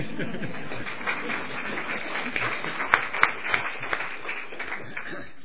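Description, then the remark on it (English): An audience claps steadily for about five seconds, a dense patter of many hands with a few sharper, louder claps standing out near the middle before it begins to taper off. “Deserves the clap.”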